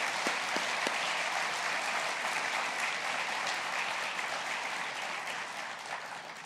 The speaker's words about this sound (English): So you can, when you see these people, thank them personally, but let's just give a round of thanks, round of applause for thanks to those who serve.